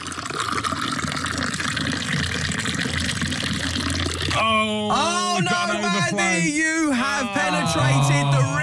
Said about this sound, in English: I'm commencing the pour. Okay, shout stop whenever you like,